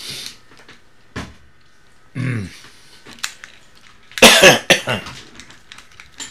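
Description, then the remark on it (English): An old man coughs several times loudly right at the microphone without covering his mouth, a sharp single cough early on, then a harsher cluster of rapid hacking coughs near the end, with no talking. “The old man still doesn't have proper microphone etiquette in the cover of your mouth. Turn away. Shut the mic off.”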